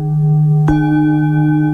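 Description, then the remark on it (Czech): A meditation bell or gong, used to cue a shared in-breath in a guided breathing exercise, rings with a steady, layered hum, then is struck again partway through, adding a bright attack and fresh ringing overtones that sustain evenly to the end. “A s dalším zvonečkem, s dalším gongem společně nadechneme.”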